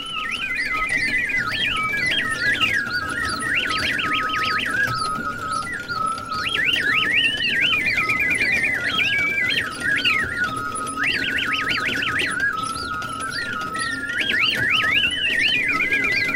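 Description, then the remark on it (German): A wind-up mechanical bird automaton, an exhibit at the Deutsche Museum, chirps and warbles in repeated bursts of high, whistling trills and sliding notes, about every three to four seconds, over a steady low whirring hum. “Aber vielen Dank, dass Sie uns erklärt haben, wie dieser Zwitscherautomat funktioniert.”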